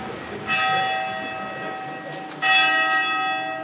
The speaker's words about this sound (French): Et puis, on traverse la Seine avec le Pont des Arts et on se retrouve là où nous allons arriver. D'ailleurs, accueillis par la cloche qui sonne l'heure qu'il faut.